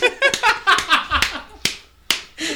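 Several sharp, loud hand claps ring out one at a time with short gaps between them, following a stretch of voices and laughter.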